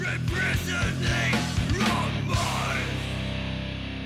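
Loud, dense band music with distorted guitars and pounding drums, overlaid by harsh screamed vocals in bursts, then a sustained wall of noisy sound as the drums thin out.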